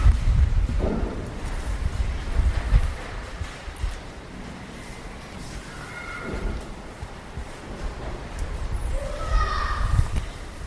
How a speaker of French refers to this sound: Nous sommes au 42 Galerie de l'Arlequin. Et dehors, c'est un peu la tempête. Le vent passe à travers la résille du genre Mucem de Marseille en béton. Nouvelle façade de la réhabilitation.